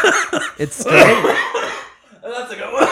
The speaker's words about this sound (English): Oh my God, I got my smoker's cough out.